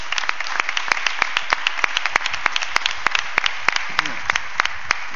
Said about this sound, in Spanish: Que tenemos aquí al rejonador extremeño Juan José Rodríguez, que tenemos que dar también una ovación por las tardes que nos hizo disfrutar. Sí, señor.